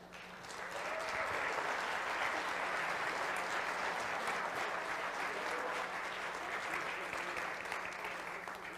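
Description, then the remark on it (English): A crowd at Cross Point Church bursts into sustained applause after a countdown from ten, steady dense clapping that swells within the first second and holds loud and even for several seconds without speech. “I am so glad you're clapping right there, okay?”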